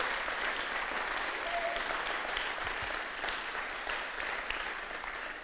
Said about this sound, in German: Können wir mal das Team Applaus geben? So stark.